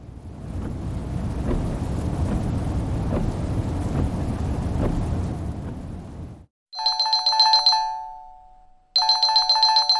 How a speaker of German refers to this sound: Wieder klingelte ein Handy.